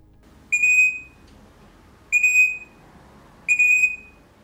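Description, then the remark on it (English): Crimson rosella bell call: three clear, ringing, bell-like whistled notes, each about half a second long with a steady high pitch, spaced a second or so apart over a faint background hiss. “For everyone at home, here is the crimson rosella bell call, and I'll play the bell minor afterwards so you can sort of see if you can tell the difference apart.”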